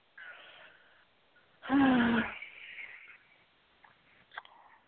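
Close-up chewing: one loud, crunchy bite with a brief grunting voice, then quieter mouth and chewing noises.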